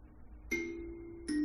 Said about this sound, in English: See what it sounds like now. There's the reverb.